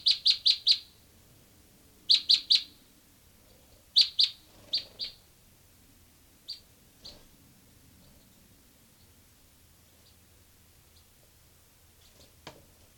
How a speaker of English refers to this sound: Recording here, bird 385.